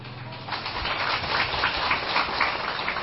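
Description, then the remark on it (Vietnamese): Steady rain falls continuously, a dense hiss of drops with faint ticking patters, moderately loud and even throughout, with no voices. “Quý vị, hôm nay mưa chẳng ngừng rơi, nghĩa là mưa buộc đất trời vào nhau, thì mình cứ hẹn chiều sau để trời đất được bên nhau chiều này.”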